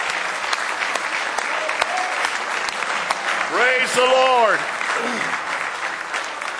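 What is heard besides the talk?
audience applause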